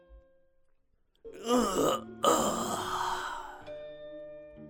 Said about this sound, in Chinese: 话音刚落，忽听得有人刻意发出一声不耐烦的哈欠。